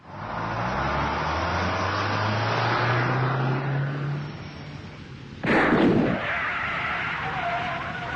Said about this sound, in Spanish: Bueno, gente, van a tener que bajar porque pinchamos una goma.